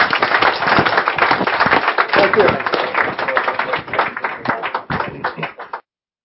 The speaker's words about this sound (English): Let me ask you all to thank you again for coming today and ask you to join me in a round of applause. Thank you.